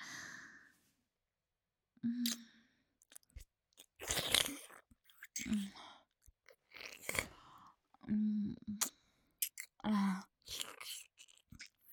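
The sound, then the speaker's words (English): Wet slurping and smacking mouth sounds of someone on their knees slurping up a gooey, creamy mess come in irregular bursts, broken up by soft, low voiced moans and sighs. The sounds are fairly quiet overall, with short pauses between them. “Watch as I drop to my knees, as I look you in the eyes, and slurp up the gooey, creamy little mess you made for Mommy.”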